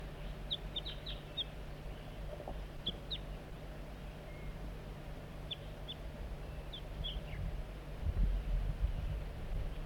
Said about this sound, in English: Bird 4-3 coaxing the juvenile in with soft flight call. Sound a little bit strange.